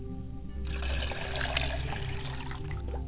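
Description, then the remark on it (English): Water is poured steadily into a glass as a libation, a continuous trickling and splashing that starts after a brief pause and runs for a few seconds with no one speaking. “I pour libations to my mother's side of the family as I pour a glass of water.”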